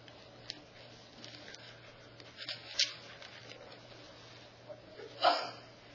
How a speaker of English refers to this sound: Bless you.